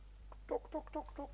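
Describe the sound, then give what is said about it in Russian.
Chickens cluck in a poultry house aboard a ship, in a quick run of four or five short, nasal bursts at a fairly steady pace, quiet over a low steady hum. “Здесь на корабле есть птичник. Посадим его к птицам.”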